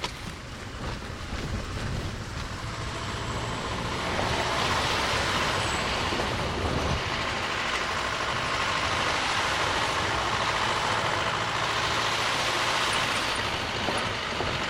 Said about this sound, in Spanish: Tuvimos que alquilar una camioneta 4x4 que tenga la fuerza para pasar por caminos destapados entre fincas, trochas y caminos muy empinados.